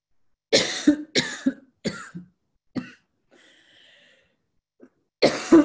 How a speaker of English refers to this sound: We're human. We cough. We wipe sniffles from our nose. I'm fine, by the way.